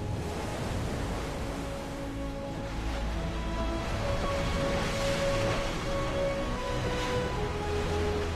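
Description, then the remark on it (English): The warship Greyhound speeds forward and cuts sharply through ocean waves while two other ships follow: a steady, loud rushing wash of water with a faint droning engine hum underneath, continuous, with no voices. “Outside, Greyhound speeds forward and cuts sharply through the water while the other two ships follow.”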